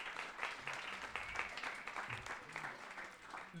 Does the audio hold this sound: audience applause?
yes